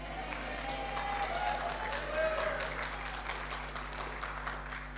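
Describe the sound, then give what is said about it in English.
A crowd applauds a preacher steadily for several seconds, many hands clapping in a dense, even patter with a low constant hum underneath and a few faint murmurs. “Now, from now on, if you like what I say, don't clap, throw money.”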